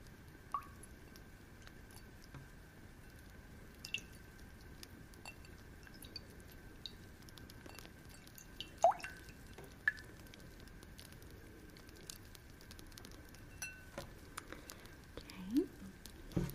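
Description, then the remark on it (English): Soft, irregular drips of water fall one at a time with uneven gaps, quiet over a faint steady background hum. “I got us some water.”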